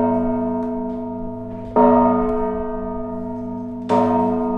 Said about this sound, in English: Those are the bells of Holy Trinity Cathedral, some of the only remaining hand-rung church bells in San Francisco. And if you look up into the bell tower, you might see one of the people that rings them.